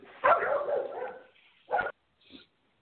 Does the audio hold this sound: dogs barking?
yes